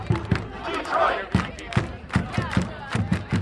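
Detroit City FC supporters in the supporter section sing and chant together in unison, with loud rhythmic thumps or claps punctuating the chant at a steady beat, at the final regular-season home game against the Fort Pitt Regiment.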